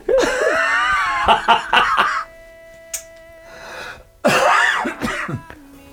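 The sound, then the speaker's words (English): A person laughs hoarsely, then breaks into a series of raspy coughs and throat clearing, with a brief quiet pause before another burst of rough, wheezy coughing. “I can't laugh. It makes me cough.”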